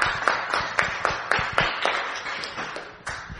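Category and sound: crowd, audience cheering and clapping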